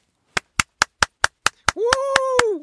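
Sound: applause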